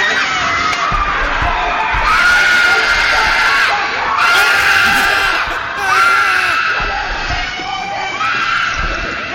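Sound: little girl screaming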